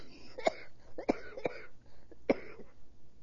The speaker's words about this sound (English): has a cold and may cough occasionally.